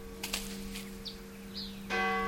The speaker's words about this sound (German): Die Kirchenglocken, die machen mich wahnsinnig.